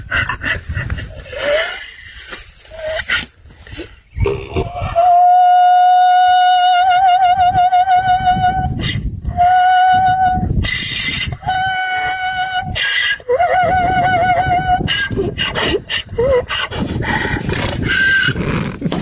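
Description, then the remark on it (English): An Irish donkey brays loudly and repeatedly as a man walks up to it, long wavering high-pitched honks with a warbling, almost operatic vibrato, broken up by harsh wheezing gasps between each call. “So apparently this guy's walking up to the donkey, and as soon as you get near the donkey and he sees you, he starts making a sound that sounds like an opera singer.”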